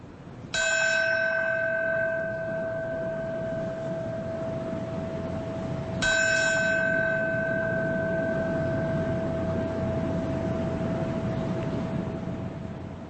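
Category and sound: signal or alarm, memorial bell ringing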